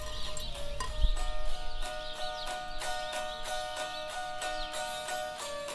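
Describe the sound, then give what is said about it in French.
Steady, evenly spaced footsteps in snow tap along at a walking pace over a sustained tonal drone, with a dull thump near the start. “Les bruits de pas s'arrêtent.”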